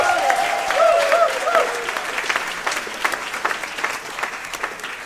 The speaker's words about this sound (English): Make some noise. Applaud if you've been to a drive-in movie theater.